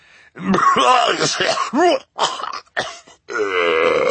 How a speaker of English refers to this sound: Mr. Poe took out his handkerchief again, and the Baudelaires waited as he coughed into it before replying.